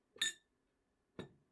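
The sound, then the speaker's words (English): A glass of water is set down on a hard surface with two sharp, bright clinks about a second apart, fairly loud, the first ringing slightly longer. No voices. “Okay, I got you a glass of water.”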